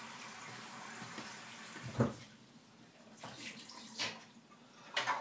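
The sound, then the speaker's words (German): A steady, broad hiss of an espresso machine's steam wand, worked by a steam lever, frothing milk into foam for cappuccino, with gurgling surges that swell around two, four and five seconds. No one speaks. “Ja, dieser Dampfhebel dafür. Ihr wisst ja, Cappuccino und so Zeug. Also den Milchschaum so.”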